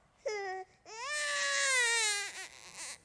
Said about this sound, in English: A distant cry, piercing the night. The cry of an infant who has just been born.